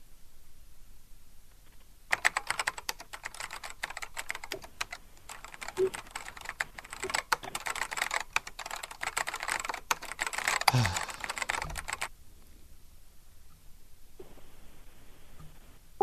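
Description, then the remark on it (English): Rapid, steady typing of an email on a computer keyboard, a dense run of clicks lasting about ten seconds before stopping, with quiet room tone on either side and no talking. “He finally got bored with listening to me typing.”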